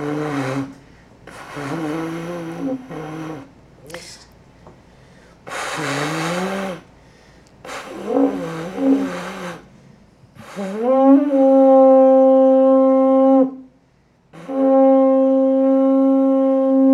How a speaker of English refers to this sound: This is the samurai trumpet.